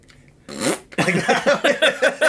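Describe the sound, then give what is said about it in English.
A voice imitates a fart: a short raspy blast, a brief pause, then a rhythmic string of about six sputtering, buzzy pulses, fairly loud and with no other sounds. “But I'll have a fart coming and I'll sort of go.”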